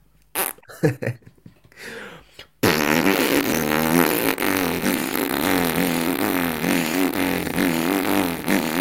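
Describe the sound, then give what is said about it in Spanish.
A few short puffs and breaths, then a player's lip-buzzed wind instrument starts a loud, low, continuous drone with wavering overtones, held unbroken for about six seconds through circular breathing, the player inhaling and releasing air through the mouth while keeping the lips vibrating. “Porque, claro, yo para poder tocar esto, tengo que hacer respiración circular. Y entonces lo que hago es, inspiro, suelto por la boca.”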